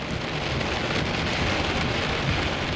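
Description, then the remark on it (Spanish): Heavy rain pours down in a dense, steady roar during a thunderstorm, with a low rumbling undertone beneath the constant downpour; no voices. “Probablemente fue después de medianoche cuando comenzó la tormenta. La violenta tormenta que puso fin a todas las tormentas.”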